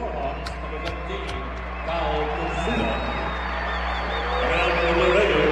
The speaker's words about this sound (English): And he is getting the appreciation from the crowd you would expect. As well he should.